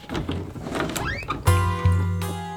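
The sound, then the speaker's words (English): A hidden door grinds open in a wall: rough scraping and a rising creak, then two heavy, resonant thuds that ring out and hum as the mechanism settles. No voices. “A secret door.”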